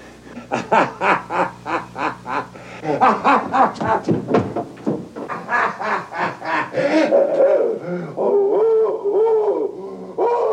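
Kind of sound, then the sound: sound effect, werewolf howl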